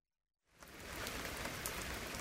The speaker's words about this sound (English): Oh dear, it's raining again. Look at all that rain.